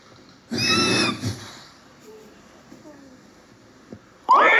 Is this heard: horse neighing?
yes